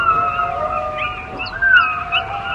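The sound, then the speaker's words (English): Sea wolf pups howling together on the Pacific Coast beaches of British Columbia, Canada: several overlapping high, wavering tones that rise and fall in a steady chorus, continuous, with no talking. “On the Pacific Coast beaches of Canada's British Columbia, there are packs of seawolves that roam the coastline, eating fish and seafood. This is what their pups sound like.”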